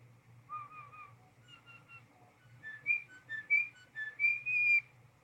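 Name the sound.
bird whistling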